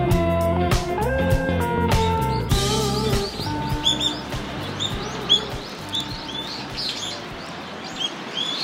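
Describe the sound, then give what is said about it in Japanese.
Busy birdsong with many overlapping chirps and tweets, lively, over a steady outdoor background, at a bird sanctuary along the Yodo River where the Amanogawa river joins it, in spring; a sustained tonal sound fills the opening few seconds before the birds dominate. “はい、今日はね、春らしいでしょ、ピーチクパーチク、これはね、淀川沿いに、天の川からね入ってくるところに合流地点のところにある鳥の楽園ですね。”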